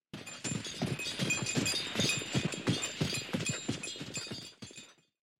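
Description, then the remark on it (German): Horse-drawn carriage clattering along, with a dense rhythmic clip-clop of hooves and rattling, clinking wheels, steady and fairly loud before trailing off into silence at the end. “Ich höre den Wagen.”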